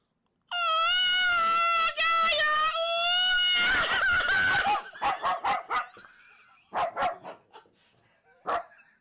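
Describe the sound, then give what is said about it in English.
A human voice imitates the mating call of the deep-throated black willow bird, southern species: a loud, sustained, wavering high squeal for several seconds, then a raspy burst and a string of short, sharp yelping calls. “Deep-throated black willow bird, the southern species, in their mating call.”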